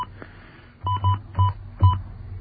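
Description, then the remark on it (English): Four quick telephone touch-tone beeps, dialed in an uneven rhythm with a brief gap between presses, clear over a faint low hum, as a phone number in a small country is dialed, starting with a 5. “I'm gonna start this one with a 5.”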